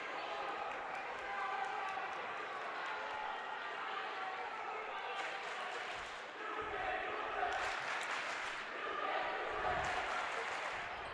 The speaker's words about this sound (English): you can hear the Pittsfield crowd instructing her that she cannot indeed do that.